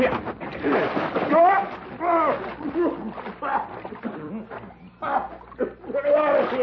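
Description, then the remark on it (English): Water splashes and sloshes as a man is plunged into a water trough at a ranch, with excited voices shouting and laughing over the commotion throughout. “Maybe we ought to let him see the owner if he takes a bath first.”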